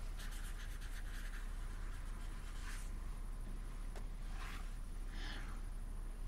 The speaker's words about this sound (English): She writes a name on a piece of paper, Rose McHenry.